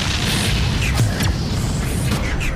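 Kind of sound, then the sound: sound effect, explosion sound effects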